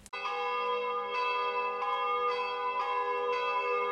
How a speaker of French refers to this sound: Les cloches sonnent, Pâques arrive.